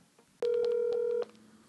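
A single steady electronic telephone tone sounds for just under a second as a phone call is placed to a volunteer with Rescue for All, clear and fairly loud over a faint hiss, with no one speaking.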